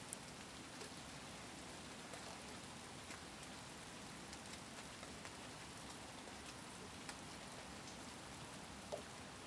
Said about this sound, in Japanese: 雨を眺めるのって結構好きなの。雨同士だからかな。